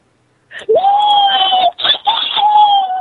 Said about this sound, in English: I hear like 35 people screaming in the background.